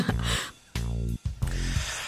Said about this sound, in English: I've been waiting to cough for so long.